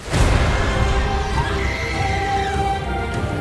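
Heavy hooves tread steadily beneath a dark, droning musical bed with sustained tones, the footfalls blending into a rumbling low-end texture.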